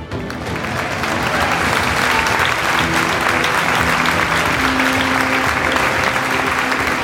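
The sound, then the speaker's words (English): Steady, dense applause from a crowd, fake applause added in post-production, fills the entire stretch at a constant loud level, a continuous wash of clapping with no voices breaking through. “Yeah, this is where we put the fake applause at”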